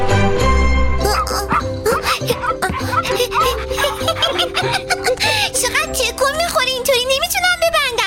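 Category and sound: animal, dog barking and whimpering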